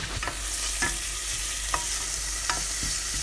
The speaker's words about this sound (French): Dans une casserole, je fais fondre une noix de beurre. Dès que le beurre est fondu, j'ajoute l'échalote.